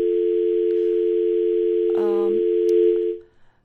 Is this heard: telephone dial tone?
yes